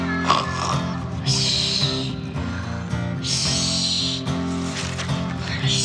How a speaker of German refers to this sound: Nur Valisas eigenwilliges Schnarchen war zu hören, woraufhin Isidor bald wieder einschlief.